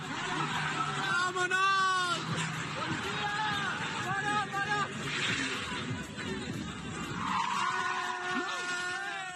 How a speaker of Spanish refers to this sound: Imágenes de coches haciendo trompos a toda velocidad en medio de una macrofiesta.